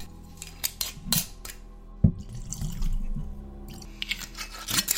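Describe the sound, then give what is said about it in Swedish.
A few sharp glassy clicks and handling sounds, then a steady trickle of whisky being poured from a bottle into a glass for a couple of seconds, fairly quiet, with more clinks at the end. “tar tag i whiskyflaskan och häller upp ett stadigt glas till Tony också”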